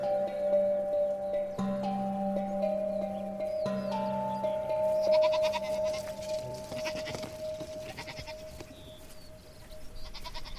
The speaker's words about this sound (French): Après la récolte des olives, on m'a chargée de garder un troupeau de 120 chèvres. Tous les matins à 6 heures, j'allais les traire à la main.